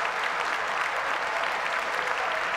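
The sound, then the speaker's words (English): Sustained applause from a large crowd at the State of the Union for Rush Limbaugh, a dense, steady wash of many hands clapping at once with no pauses or voices standing out. “Bowing his head, clapping for himself.”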